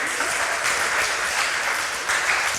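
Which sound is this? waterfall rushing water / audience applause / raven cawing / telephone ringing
audience applause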